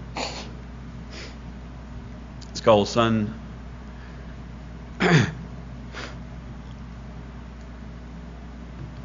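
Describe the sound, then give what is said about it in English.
A short, honking nose blow bursts out, then a second briefer snort a couple of seconds later, both fairly loud, with a few spoken words nearby. “I'm gonna blow my nose before I get started.”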